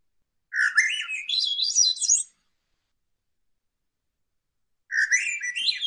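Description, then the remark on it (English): A thrush sings two gurgling, upward-spiraling phrases, clear, separated by a few seconds of silence, with the second phrase cut off at the end. “It's more of a gurgling, ascending song. Here it is.”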